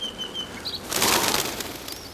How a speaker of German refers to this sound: Diesmal klappt es. Der riesige Schwarm an Vögeln schlägt die Insekten in die Flucht.